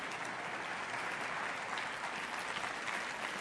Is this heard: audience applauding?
yes